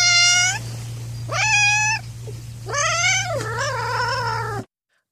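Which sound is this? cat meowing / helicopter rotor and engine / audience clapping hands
cat meowing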